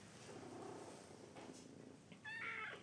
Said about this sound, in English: Meow. Oh, it's the cutest little meow. Let's see if you can meow right into the phone. There you go. Oh. This is such a sweet cat.